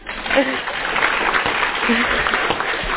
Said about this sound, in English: Do you believe in magic? If so, clap your hands as loud as you can.